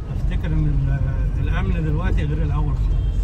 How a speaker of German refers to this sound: Er lenkt sein Auto weg vom Tahrirplatz, weg von der Politik, die seinem Land kein Glück gebracht hat. Er fährt zum Abschluss seiner Tour dahin, wo er selbst am liebsten ist.